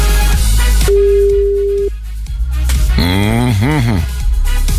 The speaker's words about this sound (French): le téléphone va sonner. C'est peut-être chez vous qui sonne. Et là, faut décrocher. Et pour l'instant, ça ne sonne pas. Mais maintenant, ça sonne. Ça sonne.